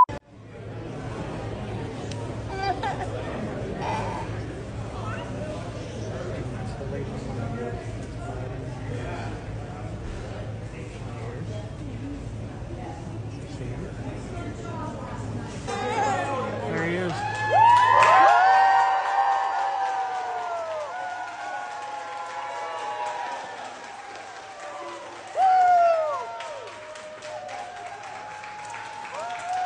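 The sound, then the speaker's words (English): A crowd at a fire station in Pennsylvania breaks into sustained applause as Trump walks in, with cheers and whoops rising over a murmur of chatter. The clapping is loud and dense, then gives way to scattered shouts and voices. “When Trump walked in, everyone applauded.”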